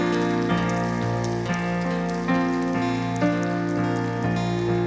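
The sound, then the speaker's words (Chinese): An audience claps together in a steady, dense wash of applause lasting several seconds, given to God during a Christian worship service, layered over sustained, held keyboard chords with no talking. “我哋将我哋嘅掌声再次俾我哋天上坐着为王嘅父。”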